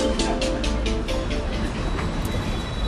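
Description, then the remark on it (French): A tram in Strasbourg rumbles along its rails as it comes into the Homme de Fer stop, a steady low drone and a quick run of rhythmic wheel clacks that gradually spread out as it slows, fairly loud, with no one talking. “Voilà, descendez là du tramway et rejoignez-nous entre les livres de la librairie Kléber”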